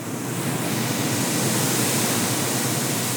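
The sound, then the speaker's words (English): Street sweepers and litter blowers used by a street cleanup crew on the early morning shift, nearly 4 a.m., make a loud, steady, hissing roar that fills the whole clip without letting up, with no voices. “Instead, they've got litter blowers and street sweepers.”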